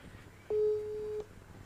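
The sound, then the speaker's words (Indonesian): A single steady electronic phone ringback tone of a call to a friend sounds for under a second, clean and fairly loud against a quiet background, then stops abruptly. “Gue akan menelpon teman gue nih. Kalau nggak jawab, gue telepon orang lain lah gitu.”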